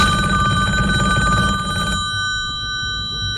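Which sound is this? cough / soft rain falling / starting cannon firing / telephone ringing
telephone ringing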